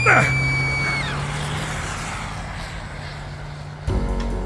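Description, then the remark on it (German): A car drives around a street corner, its engine whine dropping in pitch, then settles into a steady low rumble before an abrupt louder burst at the end. “Ein Wagen fuhr um die Ecke, als der Kerl mich schubste.”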